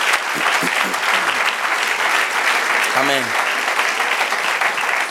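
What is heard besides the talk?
audience applause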